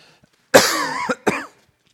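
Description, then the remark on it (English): Two coughs in quick succession, the first harsh and drawn out with a raspy tail, the second shorter and sharper, fairly loud with no talking around them. “And I think everybody's got a lingering cough, so I guess we're all in the same boat there.”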